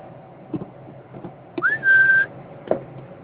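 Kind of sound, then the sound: human body sound, person whistling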